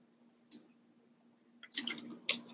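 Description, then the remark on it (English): Quiet wet mouth sounds of someone taking a sip of water: a small slurp, then a cluster of squishy gulping and swallowing noises after a pause, with a faint steady hum underneath and no talking. “All right, let me take a sip of water.”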